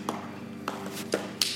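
A few light wooden knocks and taps at irregular intervals as a chair is shifted and settled into place while being held steady so it does not move, over a faint steady hum.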